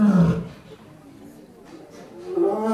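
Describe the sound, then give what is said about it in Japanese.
A lioness in a neighboring enclosure roars: a deep, throaty roar rises at the start, fades into a low rumble, then swells again near the end. “うわ今隣の檻のメスライオンが吠えてますよ。”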